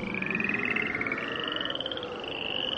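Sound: frogs croaking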